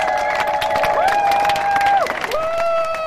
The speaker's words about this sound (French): On applaudit les amis en mer sur leurs kayaks et leurs catamarans.